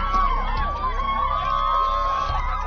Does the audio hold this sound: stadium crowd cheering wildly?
yes